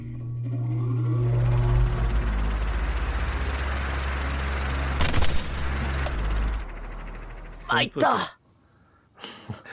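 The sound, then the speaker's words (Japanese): A loud, steady mechanical whir of a giant electric fan, with a strong low hum and broad rushing noise, running for several seconds before cutting off into brief bursts of voices. “入った なんか機械 巨大扇風機、これ、 あ、扇風機 ああ俺がね、 あ、なんか何工具かと思った、なんかこうドリルみたいな旋盤みたい みたいな感じかと思った、怖かった”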